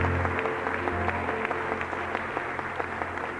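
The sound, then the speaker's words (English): An audience claps as a praise offering to the Lord before being seated, a dense sustained wash of many hands with scattered sharper claps, steady and fairly loud throughout, with a low hum underneath and no speech. “Let's give the Lord another clap offering of praise before you're seated.”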